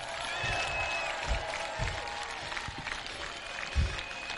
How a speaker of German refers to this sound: Ein herzliches Willkommen zur Abschlusskundgebung der Radl-Demo zum diesjährigen CSD Proud Human Queer. Hallo, Applaus bitte. Zeigt nochmal alle, was ihr könnt.